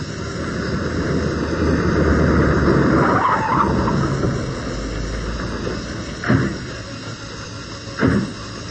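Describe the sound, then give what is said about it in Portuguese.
A car arriving at a building rumbles, its tires hissing as it brakes and slows to a halt, then the engine noise fades and two brief, sharp thuds follow a couple of seconds apart. “Ah, estamos chegando. Parece que o edifício é aquele, né?”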